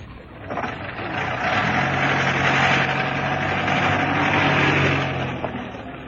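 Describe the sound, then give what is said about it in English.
A taxi's engine idles steadily outside a house with a low, constant hum and a faint tonal drone, holding at an even level for several seconds with no voices. “It's slowing up outside the house. It's him, all right. He's getting out of the taxi.”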